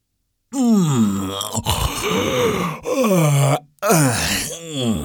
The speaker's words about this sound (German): Die große Truhe ist gelangweilt, gähnt die große Truhe.